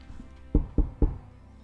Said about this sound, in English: And as you all pick up your items, you feel this energy, and there is a knock at the door.